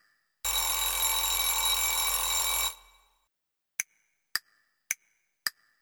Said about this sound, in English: Time to play, it's 10 o'clock. I'm ringing to let you know, it's 10 o'clock.